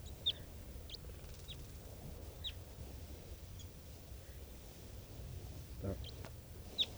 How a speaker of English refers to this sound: And the birds are coming down. I see there's some juveniles here. And they sound like test tubes. Test 1-2. Test 1-2. Test. And I pointed at some of the wild birds.